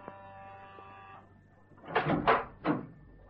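A steady electric doorbell buzz at Dr. Christopher Meade's dentist surgery rings for about a second, then after a pause the surgery door is opened to enter with three quick rattling clunks.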